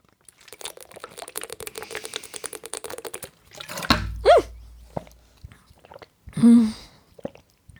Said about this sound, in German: Hörsturz für jeden gerade wahrscheinlich, ne? Ich bin gerade mit der Flasche gegen das Mikrofon gekommen. Hoffentlich nimmt das Mikrofon noch auf, das ist ja jetzt die Frage.